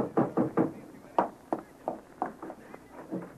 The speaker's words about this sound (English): I can tell by the knock.